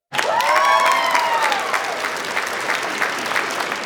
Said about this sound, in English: You passed. You get nothing as a prize. You just get these audio claps.